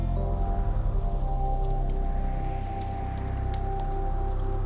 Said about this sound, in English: Hear the crackling of the logs as the sap from the logs hits the fire.